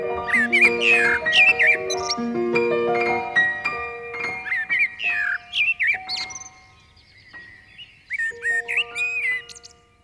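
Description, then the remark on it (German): Lively birdsong with quick, overlapping chirps and trills from several birds, set against steady, sustained musical tones that step up and down underneath. A short lull near the end before the chirping resumes. “Wenn man jetzt im Frühling ganz früh morgens rausgeht, frühes Aufstehen, wird er belohnt, dann zwitschern alle Vögel durcheinander.”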